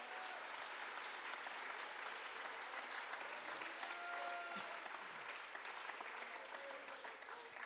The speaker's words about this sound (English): Somebody clap your hands in this house. Aplaude sus manos a Dios.